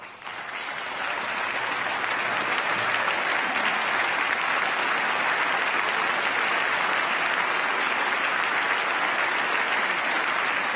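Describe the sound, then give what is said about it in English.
Sustained applause from a large audience, with Al Franken of Comedy Central clapping, rising quickly in the first second and then holding steady and loud as a dense wash of clapping for about ten seconds, with no talking. “Al Franken of Comedy Central clapping away there.”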